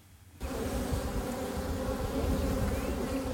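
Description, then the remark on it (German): A dense, steady hum of many honeybees buzzing together at hives on the rooftops of St. Pauli, starting abruptly after a brief quiet moment and continuing loud without pause. “Es summt und brummt über den Dächern St. Paulis.”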